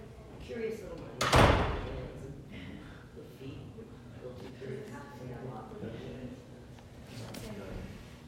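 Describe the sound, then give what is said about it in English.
A door is pushed open and thuds shut, one loud clattering burst near the start, followed by quiet room noise with faint voices murmuring in the background. “That door is locked. I was locked in the front door.”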